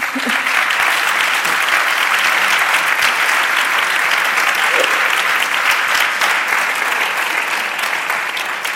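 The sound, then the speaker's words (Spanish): An audience applauds steadily and loudly throughout, a dense wash of many hands clapping that holds at an even level from start to finish with no talking. “Me lo habéis puesto difícil con el aplauso porque le iba a apretar ahora.”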